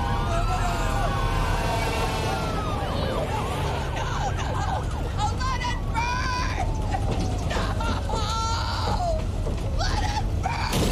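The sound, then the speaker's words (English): Fire truck sirens wail in rising and falling sweeps as the trucks come up to a fire, over a steady low rumble of engines and street noise, with faint voices in the background throughout. “Yeah, I really did like how the old one ended with the fire and they had the truck pulling away and then they had the fire trucks coming up and you can hear her yelling like.”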